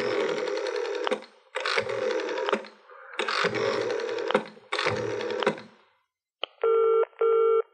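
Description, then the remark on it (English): A telephone being dialed by a man: four bursts of rapid mechanical clicking and whirring with short pauses between, then a brief quiet and two short electronic tones. Fairly loud, with no voices. “He was very worried indeed when he picked up the phone and dialed nervously.”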